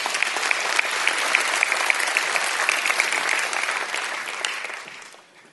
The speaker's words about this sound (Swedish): Så om inte det är värt en applåd så vet jag inte.